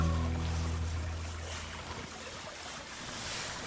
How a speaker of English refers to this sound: Our background audio today has been the water rippling in the creek near the cabin.